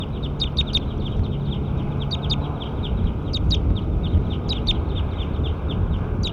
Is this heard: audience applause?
no